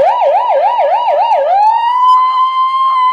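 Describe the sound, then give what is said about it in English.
A loud police siren warbles rapidly up and down for about a second and a half, then settles into a steady, high sustained tone with no voices. “do your best police siren.”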